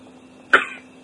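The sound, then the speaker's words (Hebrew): A single sharp sneeze bursts out midway, loud, then trails off quickly into quiet with a faint steady hum; nobody speaks. “עוד. לבריאות.”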